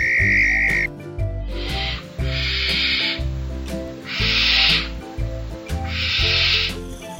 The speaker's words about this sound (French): Faut avouer que ça fait un petit peu peur. Et bah ça, c'est le chant, voilà, le cri de cette chouette qui est sublime mais qui porte bien son nom.